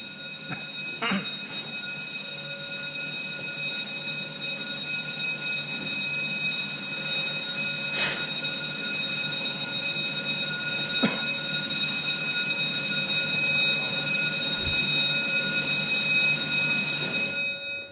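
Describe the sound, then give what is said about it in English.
An alarm bell rings continuously and loudly for the whole stretch, a bright, metallic, steady tone that never pauses, with a few faint knocks underneath before it cuts off at the end. “Instead of saved by the bell, I'm stopped by the bell, but let's stop for a short while.”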